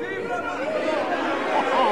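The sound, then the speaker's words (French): A dense crowd of the people of Paris clamors together, acclaiming the marquis in a continuous, steady roar of shouting and chatter, with a few raised calls rising out of the mass over two seconds. “Entendez-vous ces cris? C'est le bon peuple de Paris qui acclame le marquis, notre maître, monsieur honteux.”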